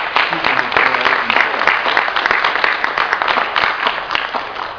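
An audience breaks into sustained applause, a dense, steady wash of many hands clapping at once, loud and even throughout with no voices standing out above it.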